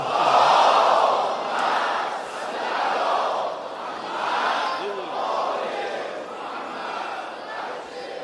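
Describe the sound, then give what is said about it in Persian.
A large crowd loudly chants salawat in unison in honour of Imam Khomeini, the eve of his birthday. A dense swell of many voices rises and falls in several rhythmic waves across the whole clip. “یک جلوه نیز از جلواتش خمینی فردا تولد امام هم هست، به عشق امام خمینی صلوات بلند خواهد.”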